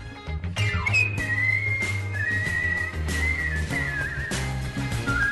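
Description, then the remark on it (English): A skilled whistler carries a sustained, wavering melody with smooth slides and vibrato over a steady instrumental backing with low bass notes and rhythmic hits, clear, with no talking. “Yeah, that's a whistler.”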